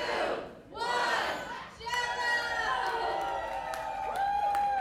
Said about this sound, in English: Sometimes the audience likes a jokester making big expressive faces. Sometimes the audience roots for the shy underdog. And sometimes it's impossible to tell who won without having the audience cheer 2 or 3 times.